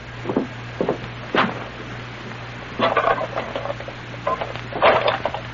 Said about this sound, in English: Here's our room right here, Sergeant. 209. I'll unlock the door. That's all. What's the matter? Door was already unlocked.